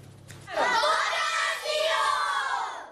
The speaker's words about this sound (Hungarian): Kiáltásokkal sürgették a kicsengetést a gyerekek, ma már tanítás nem is volt, csak játszottak a mályi általános iskolában.